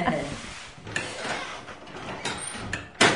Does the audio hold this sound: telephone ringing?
no